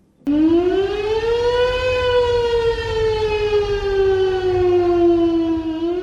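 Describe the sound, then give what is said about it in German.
A civil defense siren wails loudly and continuously during the annual siren alarm test heard across Switzerland, its pitch rising then slowly falling in a long sweeping tone, with no voices present. “So tönt es in der ganzen Schweiz beim jährlichen Sirenenalarm.”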